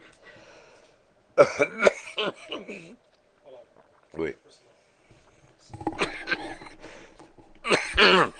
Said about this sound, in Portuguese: eles podem participar da minha tosse, espirros, etc., com mais dramaticidade, né?